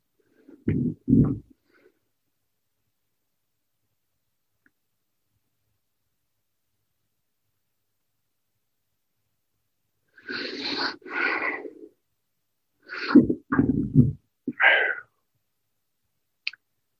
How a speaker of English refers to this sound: The belching I'm doing is another form of clearing heavy energy.